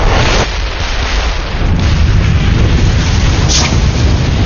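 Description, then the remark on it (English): A loud, sustained explosive roar of fuel, grenades and pipe bombs going off down a shaft, flame bursting through open doors toward parked cars; a dense, rumbling burst of noise heavy in the low end that barely lets up, with no voices over it. “A volcano of flame vomited through the open doors, reaching out for yards and licking at several of the parked cars.”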